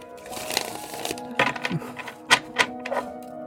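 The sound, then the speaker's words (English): A deck of cards being shuffled for a card reading, a papery riffle of quick crisp clicks and flutters that comes in several short bursts, with sharper snaps toward the end and no one talking. “How's that for ASMR? Yeah. ASMR. Shuffling ASMR.”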